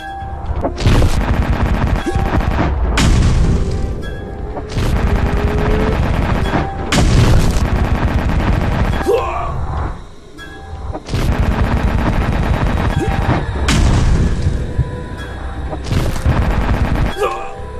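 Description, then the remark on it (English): A loud, chaotic video game battle with repeated booming cannon blasts and gunfire crackling almost nonstop, broken by a brief lull before the barrage resumes at full intensity. “Alien positions himself next to one of the last two free cannons starts to... Blah, blah, blah. The battle begins.”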